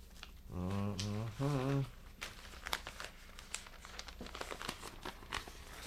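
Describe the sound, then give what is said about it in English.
Paper rustles and crinkles in a run of irregular crackles and soft rattles as someone searches for a paper, after a short voiced hum at the start. The handling continues steadily at moderate loudness. “The problem I have is, and where is that paper now?”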